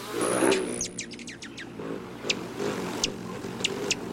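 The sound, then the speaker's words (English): Rufous hummingbird wings buzz and whistle: a quick run of thin, high chirps, then several sharp, separate whistles spaced about a second apart over a low background hum. “Nearly all the rufous hummingbirds will begin their migration by late August, sipping their way south on high mountain wildflowers all the way to Mexico, until they whistle into our lives again in spring.”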